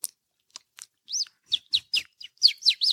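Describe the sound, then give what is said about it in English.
A person imitates baby bird chirps with a rapid series of high, thin peeps and tweets, a few quick clicks at first, then repeated chirps building in a bright run. “I can do a baby bird.”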